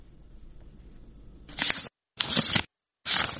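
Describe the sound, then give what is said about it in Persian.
Three crisp, papery swishes of book pages being turned by a 14-year-old schoolgirl in Afghanistan, evenly spaced, each a short rustling flip following a faint low background hum. “با هر بار ورق زدن کتابهایش خاطره تلخ روزی را باید می آورد که برایش اجازه داده نشد داخل مکتب برود.”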